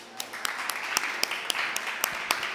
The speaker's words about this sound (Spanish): Pónganse de pie, papás. Despierten tantito. Muy bien. Un aplauso para los papás.